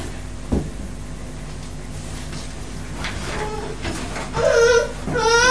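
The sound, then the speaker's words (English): A boy cries and whimpers in rising, wavering wails near the end, with a brief knock and a steady background hum earlier on. “He's crying.”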